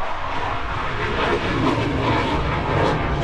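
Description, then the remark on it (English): F/A-18 fighter jets thunder overhead at Oshkosh 2016 in a loud, unbroken roar that fills the whole few seconds, a dense rushing rumble with no voices over it. “There goes the F-A-18s.”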